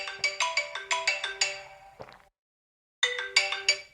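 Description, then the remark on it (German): An alarm clock rings shortly after 8 o'clock with a bright electronic melody of quick repeated tones, breaking off after two seconds, pausing in silence, then starting again. No one speaks over it. “Und zweitens war das mein Wecker.”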